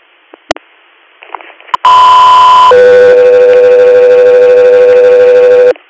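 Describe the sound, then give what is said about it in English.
A loud two-tone radio dispatch alert to an aircraft crew for an inter-hospital response request: a steady high tone for about a second, then a lower sustained tone for three seconds, preceded by a brief click and faint static. “Air, standby for tones.”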